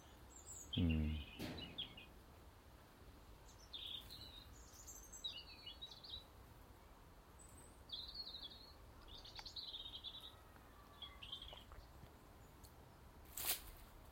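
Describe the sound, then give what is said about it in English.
A female blackbird calls in short, scattered chirps and chattering notes across the whole stretch, with a soft thud near the start and quiet outdoor background. “No, Mrs. Blackbird, that was just my tea. She's running around in circles trying to figure out what I chucked here.”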